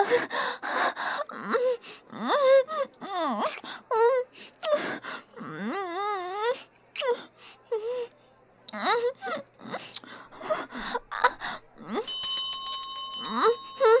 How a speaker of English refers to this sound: That was the first bell. Hurry up.